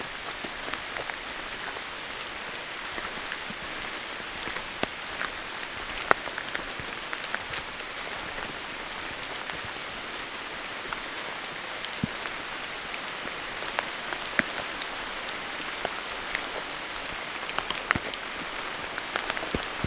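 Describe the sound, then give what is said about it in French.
Steady rain patters continuously on leaves and surfaces around a clearing at night, a dense hiss of drops with occasional sharper taps standing out, and no voices. “Le clapotis de la pluie.”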